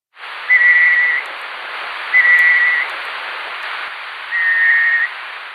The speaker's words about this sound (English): Before 2013, scientists did not know what the birds sounded like. But then a night parrot was found in the state of Queensland.